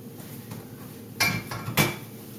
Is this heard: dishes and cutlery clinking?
yes